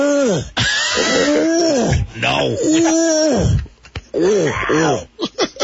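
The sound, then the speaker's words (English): A human voice imitates a male lion's roar with several long, loud, moaning wails that rise and fall in pitch, ending in short, choppy bursts and a brief spoken word. “Male lion protecting his turf.”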